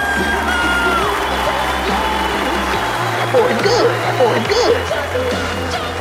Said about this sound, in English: I want you to put your hands together and welcome him to the stage. Big round of applause.